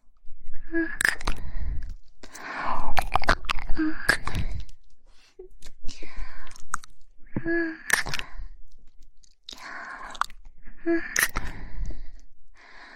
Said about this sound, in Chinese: 这个亲亲是奖励你的。既然你都说人家这么重要了，那当然要对你好一点了呀。